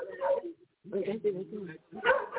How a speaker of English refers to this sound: Somebody got a dog barking. Yeah, I'm trying to hush them up. You gotta love them. You gotta love them. They're telling us what's up.